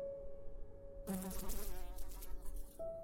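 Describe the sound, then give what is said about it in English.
Flies buzz around a woman's dead body on a bed with blood-caked sheets in a room, a busy, shifting drone that swells suddenly after a second of quiet hum, wavering in pitch as the insects move around, with no voices. “Her skin was sickly pale, yet mottled with patches of purple, as the excitable buzz of flies and the wriggle of maggots formed amidst the sheets caked with blood, and within the impacted recesses of her very obvious wounds.”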